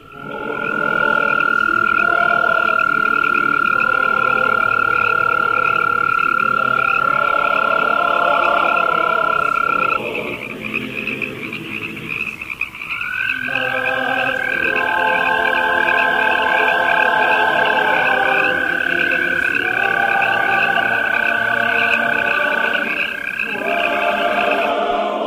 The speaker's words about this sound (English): Arroyo toad, Bufo microscaphus californicus, the pitch is a bit higher with a dominant frequency of roughly 1,500 cycles per second. It is heard here near Victorville, California, with a Pacific tree frog in the background.